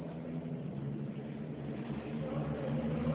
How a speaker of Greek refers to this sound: Περίμενε να περάσει η μηχανή λίγο.